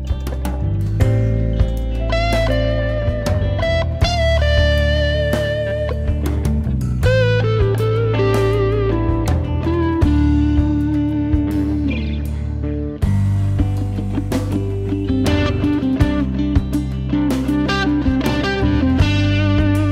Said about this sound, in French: Musique instrumentale plus décontractée qu'à l'accoutumée, plus marquée par le blues, et surtout plus économe en effet et en overdubs.